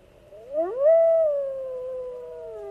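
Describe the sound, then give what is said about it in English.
A live wolf far away howls in answer to another wolf: the howl swoops upward, then holds a long, steady, slightly falling note, moderately loud against a faint low rumble, with no talking. “Hear the other one answering way far away? And then that one's calling back.”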